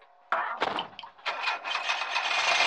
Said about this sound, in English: All POIs then leave the residence, climb into the back of their van, close the doors, and their driver leaves.